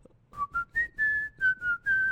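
Someone whistles a short song melody, a string of clear sustained notes rising and falling with brief breaths between phrases, no talking.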